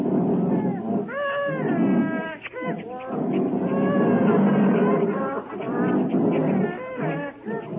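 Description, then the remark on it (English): Caged wild animals, among them a lion, two tigers, four giraffes and monkeys, are unloaded from Frank Buck's boat at the docks in Leghorn, Italy: a noisy jumble of cries, big cats yowling and roaring with rising, wavering calls, almost continuous and loud, with a busy murmur of voices mixed in. “One lion, two tigers, four giraffes, one ringtail monkey, two black monkeys.”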